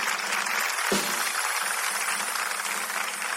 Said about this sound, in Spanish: Un fuerte aplauso para el amor.